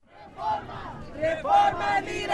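A rally crowd of hundreds of activists in downtown Los Angeles at dawn, rallied by a union leader from the bed of a pickup truck, shouts together, many raised voices overlapping in a loud, continuous swell that rises and surges for a couple of seconds.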